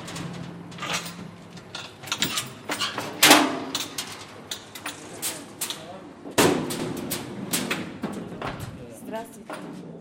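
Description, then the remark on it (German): The heavy metal door of a construction hoist, an open metal box in an open shaft at a building site, clanks and rattles as a worker opens it, with two loud slamming bangs among repeated metallic knocks and scrapes; faint voices murmur in the background. “In einem offenen Schacht nähert sich der Baulift, eine offene Kiste aus Metall. Ein Arbeiter aus Aserbaidschan öffnet uns die schwere Tür.”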